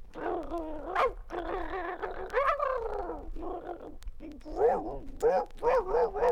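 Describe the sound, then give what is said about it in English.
A person vocally imitates a pack of about five dogs, producing a rapid, overlapping string of yips, howls and barks for several seconds, loud, with a wheezy, raspy quality in some of the calls. “Ralph took off and met up with about 5 other dogs. And I can't do 5 dogs.”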